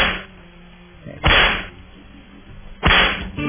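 Two sharp, loud whip cracks land about a second and a half apart, each a sudden snap with a brief trailing hiss, over a quiet background with no talking.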